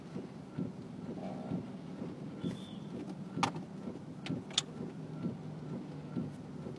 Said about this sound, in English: Okay, here's two motorcycles riding... Okay, here we go. Here's SFPD SUV, another SUV, a fucking pickup truck. This is just regular traffic now.